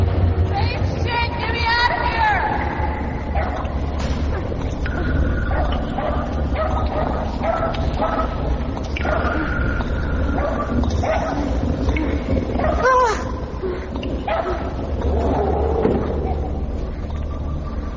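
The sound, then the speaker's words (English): A small dog barks and yips repeatedly in short, excited bursts over a constant low rumble and a busy background of voices. “Shut that dog up.”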